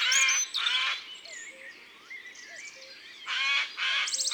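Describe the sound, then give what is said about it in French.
In a forest on April 20 in the early morning, a nearby Eurasian jay gives four loud, harsh, rasping screeches in two quick pairs separated by a pause, with fainter chirps and whistles from other birds. “Nous sommes en forêt, le 20 avril, au petit matin, et il y a un geai qui crie près de nous.”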